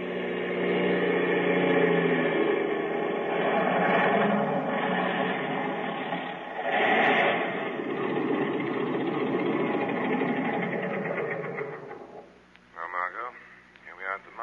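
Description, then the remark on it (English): A small airplane engine, started with an automatic starter, drones loudly and steadily for about twelve seconds, a rough, buzzing roar with slight surges, then drops away as brief voices break in at the end. “Thank heaven this plane's got an automatic starter.”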